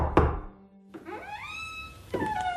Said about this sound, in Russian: Оставляет свою корзину внизу, поднимается в дом, стучится. Это она стучит.